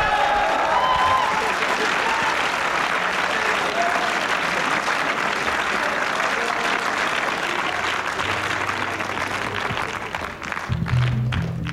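Sustained audience applause for a band, a dense, steady wash of clapping that holds at an even, loud level for about ten seconds before thinning out near the end.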